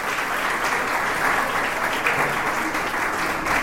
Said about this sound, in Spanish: Pónganse de pie, que la iglesia le dé un aplauso.